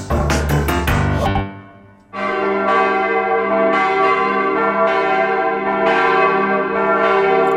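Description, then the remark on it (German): Loud church bells ring, their rich metallic tones overlapping and resonating continuously, with a brief lull before the pealing swells again in a steady, layered rhythm. “Sind Kirchenglocken Ruhestörer oder gehören sie zu unserer Tradition?”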